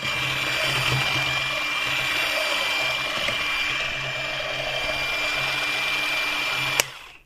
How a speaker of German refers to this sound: Alle Zutaten ausser Gomfi zusammen in eine Schüssel tun und mixen, bis es zu einem Teig wird.